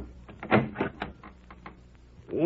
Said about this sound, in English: It was nearly 9 o'clock before they heard a knock on the door.